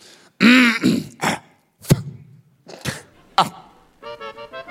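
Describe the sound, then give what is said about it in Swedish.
A man clears his throat twice, then lets out several sharp coughs, followed by a brief voiced sound at the end. “Han kommer harkla sig 2 gånger, hosta och säga...”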